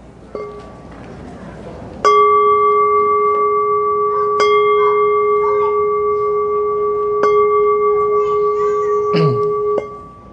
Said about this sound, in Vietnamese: Xin đại chúng giữ im lặng, chúng ta nghe ba tiếng chuông và cùng phát nguyện.